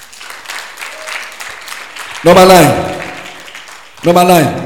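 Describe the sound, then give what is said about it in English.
A crowd claps steadily for Jesus, and two loud bursts of cheering voices rise over the applause, one midway and one near the end. “Clap for Jesus.”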